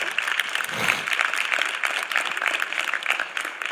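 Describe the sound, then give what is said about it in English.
A crowd applauds God's word after a preached message and prayer, with dense overlapping clapping that holds at an even, fairly loud level for nearly four seconds and no voices on top. “You're applauding God's word that you heard. That's what you're applauding.”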